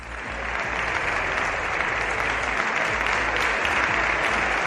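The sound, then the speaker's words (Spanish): Steady, dense applause from a large crowd applauding the president, many hands clapping at once in a continuous rattling wash that holds at an even, fairly loud level throughout, with no voices standing out. “Bueno, algunos prefieren aplaudir al presidente.”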